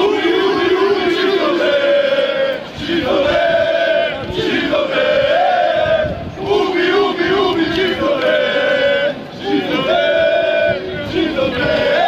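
A large crowd of Bosnia and Herzegovina national team football fans chants loudly in unison in the streets of Vienna before a friendly match against Austria, directing hate speech at Jews, voices rising and falling in rhythmic, sung phrases that repeat continuously, with a raw, shouted edge.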